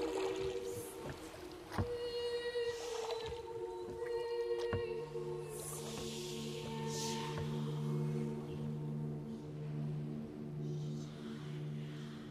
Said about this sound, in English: They row slowly towards the island through curling strands of mist, and as they move, the foghorn begins to keen in triplicate.